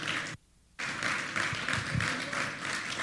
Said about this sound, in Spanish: Vamos, dale un aplauso al Señor por eso.